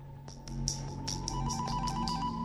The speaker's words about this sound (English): Gridenko's attention is drawn to the sound of the ringing phone. He crosses to a wooden balustrade and feels under the rim.